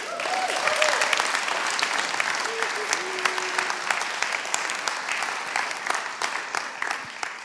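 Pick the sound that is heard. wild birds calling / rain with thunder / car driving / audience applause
audience applause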